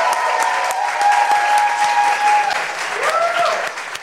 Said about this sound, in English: Y'all are going to be so sick of clapping, but please keep clapping.